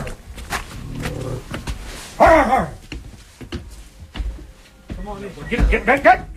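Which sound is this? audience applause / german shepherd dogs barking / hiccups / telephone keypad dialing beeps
german shepherd dogs barking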